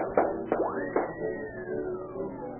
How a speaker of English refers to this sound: Those shots came from the official junior police pistol.